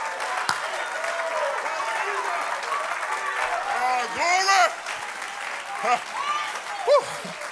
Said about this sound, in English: Clap your hands to the Lord and magnify that name.